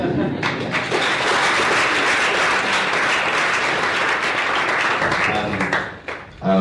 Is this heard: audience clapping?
yes